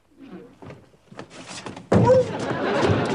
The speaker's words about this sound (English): No, when you opened the door